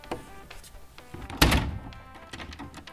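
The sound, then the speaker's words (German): A single solid wooden thunk lands against a cabinet door, sharp and loud, followed by faint knocking and rustling as a mother repairs the door's fittings in a kitchen on a rainy day. “Ich repariere gerade die Schranktür.”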